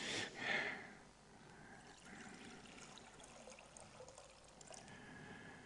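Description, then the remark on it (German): Water pours into a glass, a brief splashy gush at the start easing into a soft, steady trickle that runs on quietly. No voices. “Gerade kriegte ich das Wasser gereicht und das ist immer schön, wenn einer dem anderen das Wasser reichen kann, nicht?”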